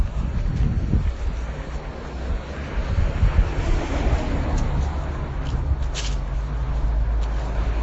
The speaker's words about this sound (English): It doesn't seem to quite know what direction it's coming in, but it's quite strong when it does. The kind of wind that throws classrooms into chaos. And when it stops, like just now, this kind of little spot between gusts are wonderful.